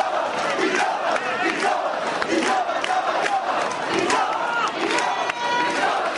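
A castellers team's crowd shouts "Joves!" over and over in a loud, rhythmic chant in a town square on a very hot day at two in the afternoon. The castle's raiser, carried on shoulders, started the shouts. Many voices roar together in steady repeated bursts for several seconds.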